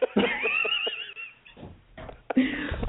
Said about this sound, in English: I mean, you know, before Moe's dog decided to rudely interrupt.